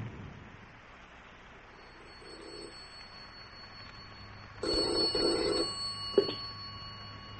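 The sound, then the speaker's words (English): After several seconds of quiet, a home telephone bell rings with an incoming call in one loud, rattling burst of about a second and a half, ending with a sharp click. No one speaks. “Virginia, do you think it's wise to phone me at home, my darling?”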